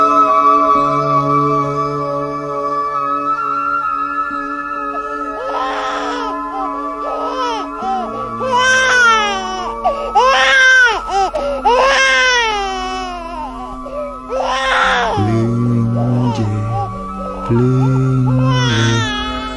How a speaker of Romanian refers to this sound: De ce plângi la veac bătrân, de sub carne, de sub zi, prunc mai viu decât cei vii? De ce plângi?